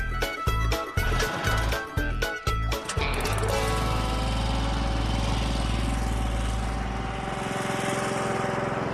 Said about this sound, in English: All right, let me kill the engine.